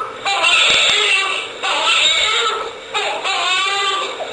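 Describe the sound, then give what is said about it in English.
An infant screams and cries in three long, high-pitched wails, each breaking off briefly before the next begins, loud and strained throughout with no other voices. “Oh, it's just a screaming child.”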